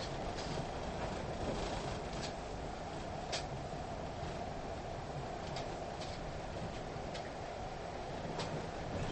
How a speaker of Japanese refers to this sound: 本日は新交通ゆりかもめをご利用くださいましてありがとうございます。この電車は新橋行きです。 Thank you for riding the ゆりかもめ。 This train is bound for 新橋。